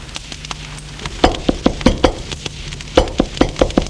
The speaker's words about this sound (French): On a frappé à la porte.